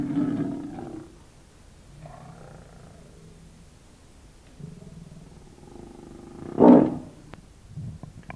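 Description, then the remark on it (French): A snow leopard poised to leap onto a tree trunk lets out low, rumbling growls that swell and fade, then a single loud, harsh roar bursts out near the end as a boy rushes at it brandishing a flame, with no one talking. “La panthère des neiges, prête à s'accrocher d'un bond à l'écorce, vit Li Fong foncer sur elle”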